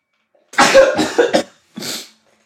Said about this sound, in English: Oh, hold on one second. I'm gonna sneeze. Oh, Jesus.